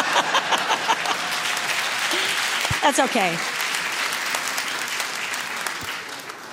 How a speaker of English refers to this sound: There's a clap coming. I think it might be just rolling in from the back.